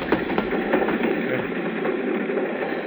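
A moving train picking up speed rattles steadily along the rails, a continuous rumbling din with faint rhythmic clacking near the start and no voices.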